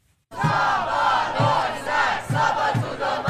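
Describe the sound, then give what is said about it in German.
A large crowd of students, opposition members and scientists protesting in Budapest in mid-February against the new financing of the Hungarian Academy of Sciences chants in unison, voices rising and falling in a steady rhythm, with dull thumps recurring about every second beneath the loud, continuous roar. “Studierende, Oppositionelle und viele Wissenschaftlerinnen und Wissenschaftler protestieren gegen die neue Finanzierung der Akademie der Wissenschaften.”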